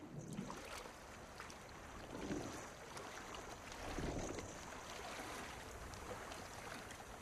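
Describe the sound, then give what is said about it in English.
Rough open-sea water churns and splashes continuously, with a few louder surging swells rising and falling over a steady wash of noise. No voices. “Waves toss in the open ocean.”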